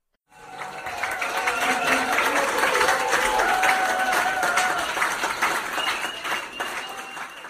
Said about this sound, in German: Danke, danke für den tosenden Applaus.